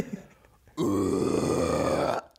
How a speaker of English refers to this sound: Medium scream? I don't know how to scream either. Or do a low and a high one. I don't know how good I am at it.